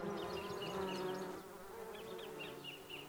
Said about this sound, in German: Bienen, ein gut organisiertes Volk.